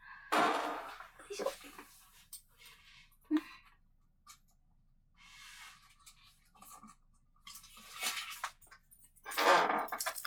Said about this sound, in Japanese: ごめんなさい、椅子のギシギシする音が鳴っちゃって。